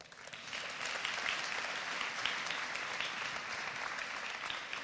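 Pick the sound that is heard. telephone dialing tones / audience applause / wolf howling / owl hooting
audience applause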